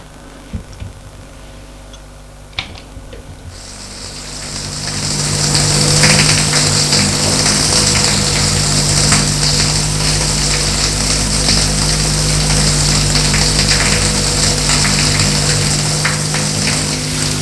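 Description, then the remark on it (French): A couple of soft clicks, then a man's shower starts up in a bathroom and runs steadily, a loud hiss of water spraying continuously over a low background hum, with no talking. “Il va prendre sa douche.”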